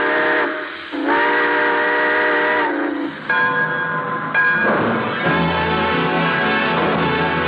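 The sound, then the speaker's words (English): A loud, sustained steam train whistle sounds in several long chord-like blasts, with the rumble and chuffing of a locomotive building beneath as the train pulls out, on The Railroad Hour radio show. “All aboard! Well, folks, it looks as though we're ready to pull out, and so until next Monday, and Starlight, this is Gordon McRae saying good night.”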